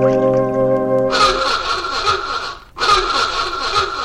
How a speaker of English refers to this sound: Then, because Flipper's out in deep water catching a mid-morning snack, Sandy picks up his klaxon horn to call his dolphin.